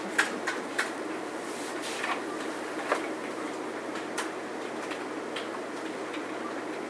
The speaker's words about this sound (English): Is everybody with me? I'm in the middle of typing, but I'm still with you.